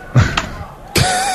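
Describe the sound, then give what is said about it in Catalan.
Two firm taps on a keyboard's return key, sending a typed message, each a short, sharp thud with a brief ring-out, spaced less than a second apart. “Un subtil cop a la tecla del rètor.”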